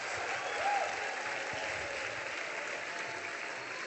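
Steady applause from an audience fills the whole stretch, a dense wash of clapping at even loudness with no one speaking over it.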